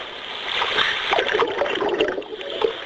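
A sustained watery splash and churn, bubbling and sloshing steadily for a few seconds with small sharper splashes scattered through it, moderately loud, with no voices: a simulation of the Huygens probe landing in a water ocean on Earth.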